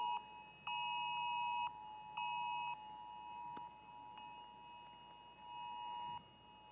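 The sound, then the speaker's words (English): An electronic device alarm beeps in a few sustained, steady, clear electronic tones separated by short pauses, with no one speaking. “So not only do we have cell phones, but watches too, and iPads, and who knows what else strands, you know, the cyborgs walking around here probably got stuff going off too.”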